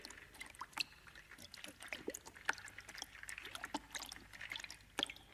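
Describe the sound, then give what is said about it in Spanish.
Water splashes and sloshes as someone takes a bubble bath, with bubbly drips and trickles popping irregularly throughout. The splashing is fairly soft, with no voices. “El sonido del baterista estaba tomando un baño con burbujas y todo.”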